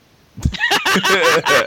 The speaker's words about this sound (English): Please chicken sound the name...